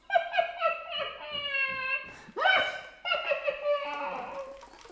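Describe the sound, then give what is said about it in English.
A flute plays quick, choppy bursts of breathy high notes that rise and fall like a chuckling laugh, imitating laughter, with a swooping slide partway through, fairly loud. “Or the laughing flute.”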